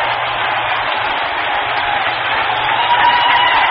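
A huge baseball stadium crowd roars and cheers as the tying run scores to tie the game 11-11, a sustained, dense wall of yelling that holds steady for several seconds, with no single voice standing out.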